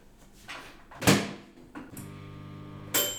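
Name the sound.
microwave oven running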